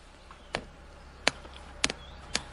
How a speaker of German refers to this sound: Jetzt brennt da hinten noch unser Feuer. Ich würde mal kurz ein bisschen euch noch mitnehmen zum Feuer, dass ihr das vielleicht jetzt noch ein bisschen besser hört als eben. Jetzt ist jetzt hier die Pushbox. Da brennt unser Feuer. Hören wir mal rein.